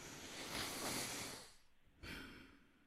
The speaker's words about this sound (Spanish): Cogemos aire.